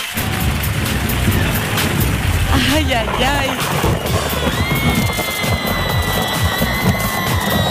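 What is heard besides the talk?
thunder rumbling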